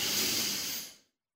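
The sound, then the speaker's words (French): One long, deep breath drawn in through the nose while inflating the belly, during a relaxation breathing exercise: an airy hiss lasting about a second before tapering off into silence, with no voices. “Une deuxième fois, inspirez par le nez en gonflant le ventre.”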